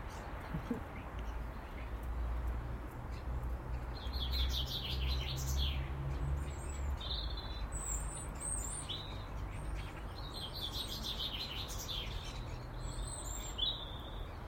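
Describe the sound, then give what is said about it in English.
Several birds flitting about on a sunny morning chirp and trill throughout, bright high-pitched calls in short overlapping bursts above a steady low rumble of background noise, with no talking. “So humble in the morning like this, standing and soaking up sunshine. and watching the birds flit about.”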